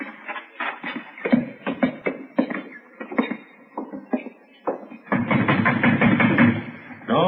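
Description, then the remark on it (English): Someone bangs hard on a door, a series of loud wooden thuds in an uneven rhythm, followed by a denser stretch of rattling, sustained pounding near the end. “Banging on the door.”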